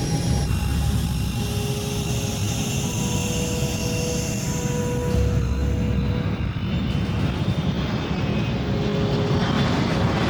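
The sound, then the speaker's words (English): A loud, steady jet airplane engine roars for the whole stretch, a dense rumble topped with sustained high whining tones and no voices; the aircraft is Air Force One, with the president aboard. “Lear? No, it's a bit big for Lear. No, Air Force One, that was.”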